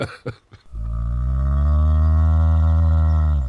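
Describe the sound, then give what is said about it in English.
A few short low grunts, then a single long, deep moo from a cow on the track that holds steady and loud for about three seconds, with no talking. “There's a cow on the track.”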